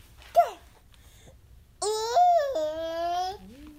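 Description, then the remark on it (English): A 16-month-old baby boy babbles: a short high squeak, a pause, then a longer sustained voiced sound that wavers in pitch and drops to a lower tone at the end. “He says cat sometimes. It wasn't so clear in that one.”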